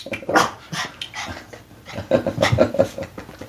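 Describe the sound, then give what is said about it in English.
A dog, Ernie, whimpers and whines in short, high-pitched bursts mixed with quick, breathy panting, sounding restless and agitated while the mailman puts mail in the mailbox, with no one speaking. “Why don't you calm down, pup?”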